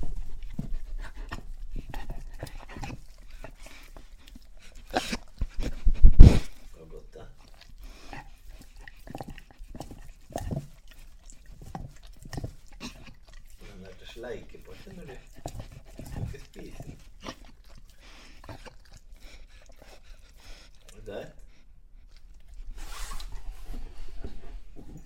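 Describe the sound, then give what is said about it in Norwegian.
A dog gnaws and chews a rubber ring with a hard treat inside, with irregular wet clicks and scrapes, mixed with panting and snuffling, plus one louder knock partway through. “Og nå har jeg fått en sånn gummiring med en hard godbit inni, som vi bruker lang tid på å spise opp, så nå jeg veldig ivrig på det.”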